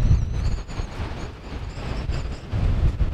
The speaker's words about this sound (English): At the Haines Airport, wind is gusting. That's true throughout the Upper Lynn Canal. It's hampering transportation.